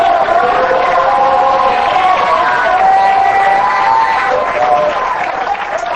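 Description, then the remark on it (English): An audience claps and shouts unto God in praise, a loud, steady wash of applause with raised voices and cheering sustained throughout, no single voice standing out. “You know, he said, clap your hands, all ye people. Shout unto God with a voice of triumph.”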